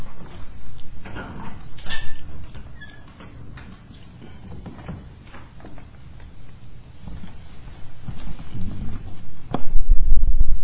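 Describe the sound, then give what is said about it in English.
A door being closed, with shuffling, rattling and scraping as it is pushed and handled, then a sharp knock as it shuts. No one speaks. “Just close the door properly.”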